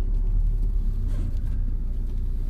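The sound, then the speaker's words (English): A car drives past amid steady traffic noise, a continuous low engine rumble and road roar that swells slightly midway, with no voices. “Watch him drive straight through.”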